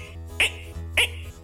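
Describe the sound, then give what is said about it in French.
A frog croaks twice, two short raspy calls about half a second apart, standing out over a steady low hum. “Et même de temps à autre, on entend certes une grenouille qui font.”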